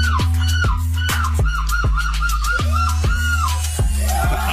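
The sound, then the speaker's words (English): A run of loud, harsh seagull calls repeats in quick succession, each a nasal, mid-pitched squawk with a rising-and-falling edge, cycling steadily for several seconds with no talking. “Snuck a seagull in.”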